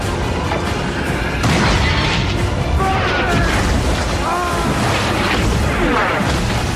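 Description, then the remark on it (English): Heavy cannon fire booms from below decks of a ship as cannons are trained on Norrington's boats, through a dense, roaring battle din, with crashes and shouting voices mixed into the loud, continuous chaos. “Below decks, Pintel, Ragetti and some others train cannons on Norrington's boats as they race back.”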